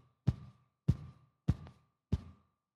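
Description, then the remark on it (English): A steady heartbeat: four evenly spaced, soft low thumps about half a second apart, clear, with nothing else around them and no talking. “She's happy to sleep lying on my chest because she feels safe, because she knows that her needs have been met, that she's been taken care of, and she trusts the steady heartbeat that she's used to hearing.”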